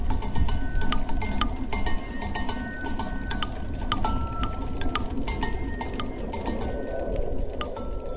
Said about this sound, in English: It looks like over 300 pinwheels, customized pinwheels. Each pinwheel is turning and hitting an object. Some students put connected little bells to it so they kind of jangle in the wind.